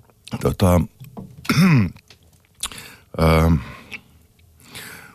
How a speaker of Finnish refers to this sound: anteeksi, yskintää. Ei se mitään.